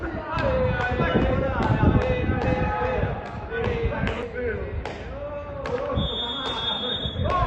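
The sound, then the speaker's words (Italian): Sounds of a football match at Matti per il Calcio, an Italian national event of mental health departments and centres, where fans also cheer the opponents and applaud the referees: a steady crowd roar with many voices, sharp ball thuds at a regular pace, and a high, sustained referee's whistle blowing near the end. “Questi sembrano i suoni di un classico incontro di calcio, ma non è così, perché qui si tifa anche per gli avversari e si applaudono perfino gli arbitri.”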